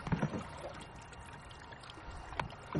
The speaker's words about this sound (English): There's something, just the feel of the paddle going into the water and just paddling at your own pace, and you can stop or start or whenever you like, you know.